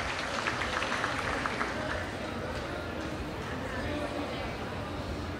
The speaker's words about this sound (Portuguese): Parabéns, salva de palmas.